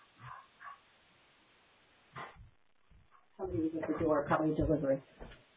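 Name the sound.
dog barking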